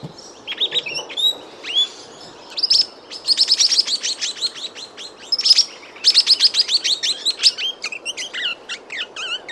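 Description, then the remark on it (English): Swift parrot calls, a migrating bird: rapid bursts of sharp, high-pitched metallic chirps repeated in quick rhythmic series, clear over a soft background hiss, with no talking. “Can you name that bird? Well, Vera O'Donovan can. She was the first to text us with the right answer. It is the swift parrot.”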